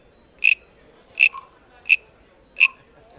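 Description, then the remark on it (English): A stick scraped along the ridged back of a hand-carved teak wood tree frog (peeper), the teak from Asia, makes four short, raspy croaks at an even, unhurried pace. The sound is clear, with no talking. “There's ridges up the back, and when you run the stick up their back,”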